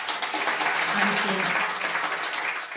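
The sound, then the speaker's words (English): An audience at a talk claps to answer whether they have ever experienced craving, a steady, dense wash of applause for about three seconds, the many overlapping hand claps blending into a continuous crackling roar that holds its loudness throughout. “So everybody here was clapping their hands.”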